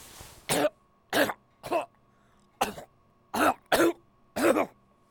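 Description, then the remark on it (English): A loud coughing fit in an old control booth: about seven harsh, raspy coughs in quick succession with short gaps between them, after a brief breathy rasp at the start, and no talking. “My leg and the cough.”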